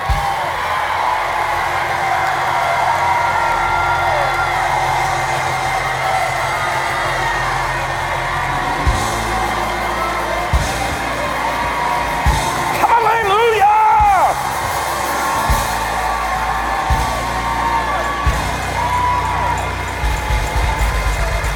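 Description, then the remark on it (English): A large audience shouts, whoops and cheers continuously, with clapping mixed into the dense, loud roar of voices that swells briefly midway and stays sustained throughout. “Right now, as you're shouting, as you're clapping, as you're waving, as you're speaking, as you're rejoicing, you are exercising patience.”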